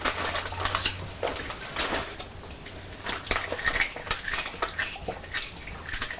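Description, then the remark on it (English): A child eating crisps: steady crunching, a dense run of dry crackly snaps and rustles continuing throughout with irregular louder bursts, and no talking. “You sound as if you're enjoying those crisps, …, crunching away.”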